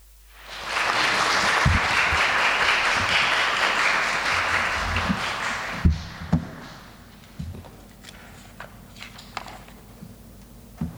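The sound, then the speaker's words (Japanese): An audience bursts into sustained applause to welcome a speaker who is about to deliver a sermon. The applause holds steady for several seconds, then fades out, leaving scattered thumps and light taps. “歓迎を込めて拍手を持ってお迎えいたしましょう。”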